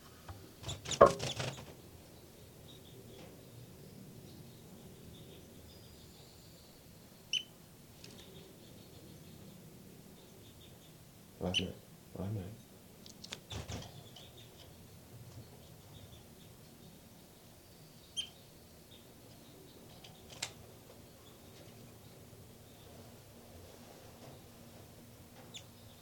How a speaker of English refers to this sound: back to the nest where the baby birds are calling.